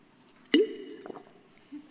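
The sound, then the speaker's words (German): A quiet sip of water: a sharp wet click followed by a soft gulp and faint swallowing sounds, with a brief breath at the end and no talking. “Da brauche ich noch einen Schluck Wasser vorher.”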